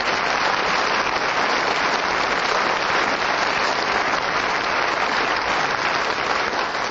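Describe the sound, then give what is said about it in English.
Sustained, loud applause from a studio audience of the panel game Just a Minute, welcoming its four panelists, a dense wash of clapping that stays steady without a break and with no voices rising above it. “So would you please welcome all four of them?”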